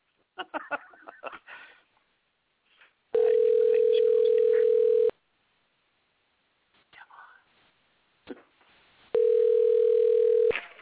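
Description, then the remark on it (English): A telephone call rings out over the line: two long, steady, loud low-pitched ring tones separated by a pause, with soft murmured voices and whispering before and between them. “I hope the lady doesn't answer the phone.”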